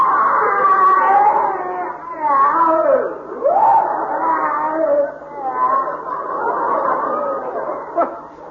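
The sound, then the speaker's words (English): A person screams in pain, a loud, drawn-out wailing cry whose pitch keeps rising and falling, with brief breaks, lasting several seconds without any talking. “Funny, it sounded exactly like someone in pain.”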